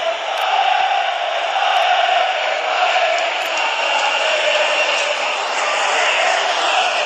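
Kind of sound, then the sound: crowd, football fans chanting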